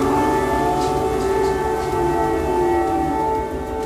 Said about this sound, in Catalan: L'atac massiu de Rússia ha fet sonar les alarmes aquesta matinada per tot el país, inclosa la capital Kyiv, on la gent s'ha refugiat al metro.